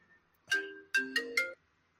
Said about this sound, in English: Who's ringing? Who dares ring me? Hold on.